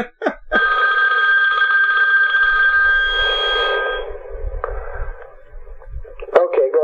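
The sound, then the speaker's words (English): A second telephone rings with a steady, sustained electronic tone for several seconds, then cuts off as it is turned off, followed by faint low thumps and handling noises. “My other phone is ringing. Let me just turn it off.”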